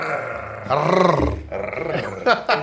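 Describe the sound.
A person imitates a tiger with a loud, gravelly vocal roar that rises and falls, then breaks into two short, rough growling bursts at the end.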